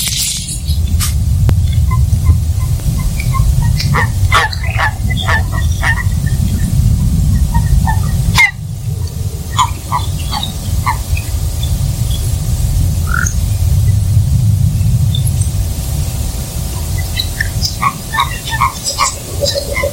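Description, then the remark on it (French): An amphibian, the featured species of the month, sings with a small grunting call repeating in short, scattered bursts over a steady low rumble, with brief sharper chirps mixed in and no talking. “Et bah pour finir ce petit reportage sur l'espèce du mois, je vous propose d'écouter son chant. Il a un petit grognement assez sympathique.”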